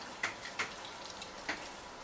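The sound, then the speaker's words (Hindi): Water drips and trickles as bread soaked in water is squeezed out while making kebabs, with three soft splashes spaced irregularly over a faint steady hiss. Quiet, with no voices. “और ये देखें पानी को आप अच्छी तरह जो है स्क्वीज करके ब्रेड को मेक श्योर कीजिए बीच में कोई पानी ना रह जाए।”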